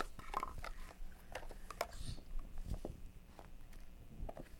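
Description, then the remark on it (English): Quiet chewing through a crust with a series of sharp crunchy bites, the irregular crackles repeating every fraction of a second as the crisp crust is broken down. “You can almost chew through the crust.”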